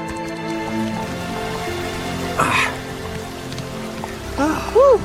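A steady wash of running water hisses throughout, with sustained tonal hums layered over it, a brief rustling burst midway, and a few rising-and-falling whistle-like calls near the end.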